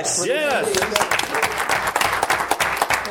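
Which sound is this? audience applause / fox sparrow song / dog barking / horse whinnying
audience applause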